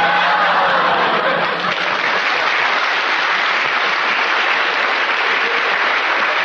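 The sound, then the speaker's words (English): A studio audience at a BBC Light Entertainment show bursts into sustained, loud applause mixed with laughter, a dense wash of clapping that holds steady for several seconds without any speech. “Lots of lovely laughter and applause.”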